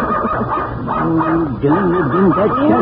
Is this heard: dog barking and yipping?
yes